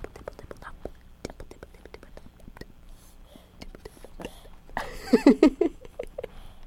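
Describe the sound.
A voice imitates rain, as a man does, with a quick, uneven patter of soft tapping, clicking mouth sounds, rising into a louder, breathy flurry near the end before trailing off.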